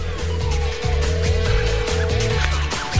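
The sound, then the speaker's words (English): A car engine revs loudly, its pitch climbing and dropping in repeated bursts over a steady mechanical drone, with no one talking. “We'll give him a revving.”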